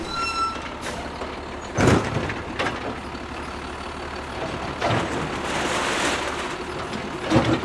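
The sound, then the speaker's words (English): A heavy red recycling truck idles while its black 9-foot-long mechanical arm clamps a blue recycle bin, hoists it and empties recyclables into the truck, with sharp clanks and thumps, hissing bursts like air brakes, and a few faint reversing beeps over a steady engine rumble. “A black 9-foot-long arm extends out from the lumbering red truck, and its claw clamps down on a blue recycle bin.”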